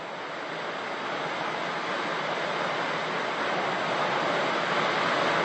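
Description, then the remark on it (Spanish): Heavy rain pours down in a dense, steady hiss that fills the whole clip, loud and unbroken, with no voices and no distinct individual drops standing out. “Hay mucha lluvia.”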